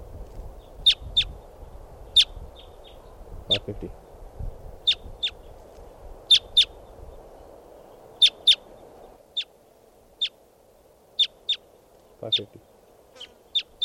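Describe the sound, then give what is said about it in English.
A flock of about 10 or 12 type two birds, perched at the top of a tall Douglas fir by a camp, gives sharp, high calls, about two dozen clipped notes scattered irregularly over steady low background hiss, with a brief spoken voice partway through. “Our type twos must be about 10 or 12 birds.”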